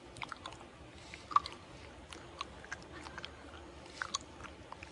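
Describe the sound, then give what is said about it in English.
Wet smacking and clicking of someone miming gum chewing with the mouth, not actually chewing gum; irregular little pops and squelches repeat over a quiet background, no talking. “I'm not even really chewing gum. It's fake acting.”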